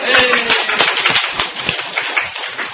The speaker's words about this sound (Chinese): 那歌唱完了不能再唱了，因为这里真有唱加班，我们的诗班唱得很棒哦。Yes， 拍手。